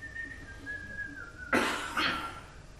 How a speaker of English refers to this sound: So his knife was shaking in his hand and he picked up another fish and started gutting and he started to whistle to himself nervously.